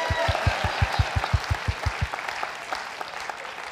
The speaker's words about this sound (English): You better clap your hands. Just fake it.